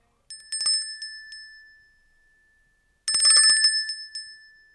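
A small silver bell, found in a gift box for the New Year tree, is shaken twice, each time a bright burst of jingling that settles into a clear, lingering ring before fading. The two shakes are separated by a short silence.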